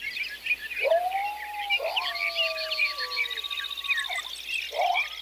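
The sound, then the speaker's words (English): A dense chorus of birds chirps and trills continuously at dawn while a few long, wavering coyote howls rise, hold and drop away underneath, in an otherwise quiet open landscape. “The almost total silence of the pre-dawn hours was followed by birds and coyotes waking at dawn.”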